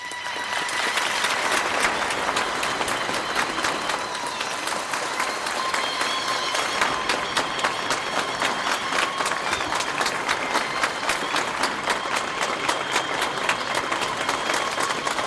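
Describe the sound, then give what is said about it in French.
Scattered, fairly light applause from a crowd in stands, started by a woman, as the king takes his seat at the invitation of Alpha Condé; steady claps of many hands fill the whole stretch without any cheering or voices standing out. “Applaudissements timides, mais applaudissements tout de même.”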